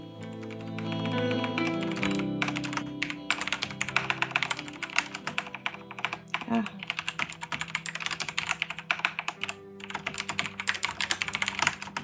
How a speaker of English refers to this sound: I really, at some point, want to capture that typing and maybe put it in that reel that we're going to do for...